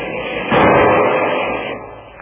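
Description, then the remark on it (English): A single loud gunshot from a Garand rifle bursts out after a brief pause, its sharp crack trailing into a long, dull rumbling decay with no voices. “Hand me that Garand rifle, Kolo.”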